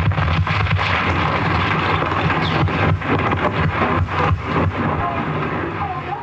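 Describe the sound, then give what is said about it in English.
The Oklahoma City bombing blast, captured on a tape recorder documenting a hearing, roars loudly and continuously, a dense wall of deep rumble and crackling bursts that fills the whole recording, with no voices. “It captures the first of many unforgettable sounds from the Oklahoma City bombing.”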